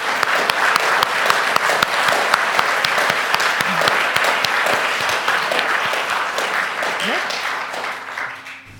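A crowd breaks into sustained applause as a send-off for a departing community member, dense overlapping claps at a steady loud level for several seconds, thinning and fading out toward the end.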